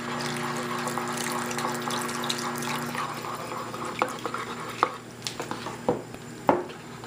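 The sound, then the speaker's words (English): Water pours steadily into a pot of gravy for a few seconds, then the gravy is stirred with sharp, irregular clinks of a utensil against the pan. Moderately loud, with no talking. “I think we're gonna need a little bit more gravy in there, so I'm gonna go ahead and add just, and the gravy really depends on how much gravy that you want in there.”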